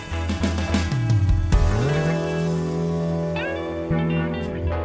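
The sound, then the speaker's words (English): Loud car engines rev and drone, their pitch dipping and climbing in repeated surges, as if vehicles are accelerating hard past the listener. No one speaks. “You can find cars like these on AutoTrader.”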